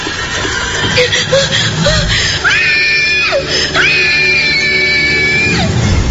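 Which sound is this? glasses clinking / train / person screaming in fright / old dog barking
person screaming in fright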